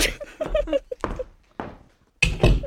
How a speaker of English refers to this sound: Resigning from the podcast. Make sure you get me slamming this door.